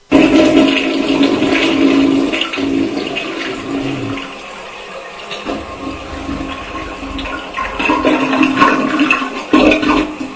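A powerful toilet flush roars loudly for several seconds, a forceful rush of water that eases into gurgling refill and then surges again near the end, with no voices.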